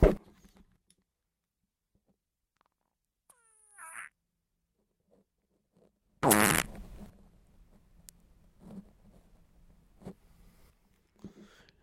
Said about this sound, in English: I totally just fucking farted. Yep, I farted. Excuse me. Where was I? Obama to Americans. Stop farting.